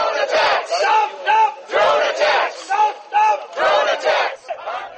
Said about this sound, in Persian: پیش از این راهپیمایی ده‌ها معترض آمریکایی و بریتانیایی که اقتدارشان به گروه ضد جنگ موسوم به کود پینک تعلق داشتند دیروز جمعه در اسلام آباد مرکز پاکستان اعتراض کردند و شعار می‌دادند که حملات طیاره‌های بی پیلوت را متوقف سازید.